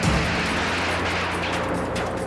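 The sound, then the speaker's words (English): A bomb dropped by a state police helicopter onto the roof of the MOVE house in Philadelphia on May 13, 1985, explodes in a loud, dense roar of rumbling and crackling noise that stays heavy for a couple of seconds, with a low steady engine-like hum underneath and no voices. “There is the explosion.”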